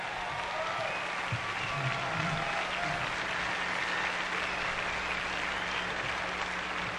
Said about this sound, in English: But when I see musicians like this, they're 16 and 17 years old, maybe 18, it gives me hope. Give a big round of applause once again.